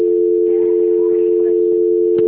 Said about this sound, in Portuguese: eu vou transferir a senhora, tá bom? Não desliga o telefone, só um minutinho, tá? Transferência.